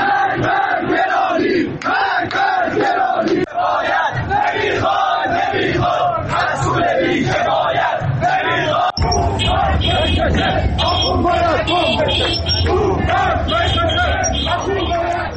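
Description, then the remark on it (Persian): A large crowd of protesters at a street protest in Iran chants loudly in rhythmic bursts, voices rising and falling together; midway the sound shifts to a denser roar with a steady low rumble beneath the shouting. “بنابر گزارش‌ها اصفهان، شیراز، گوهردشت، مشهد، اهواز، ساری و عراق از جمله شهرهایی بودند که دیروز تجمعات اعتراضی در آنها برگزار شد.”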